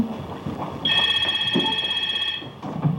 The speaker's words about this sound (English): Better get the phone before it wakes the animals, huh?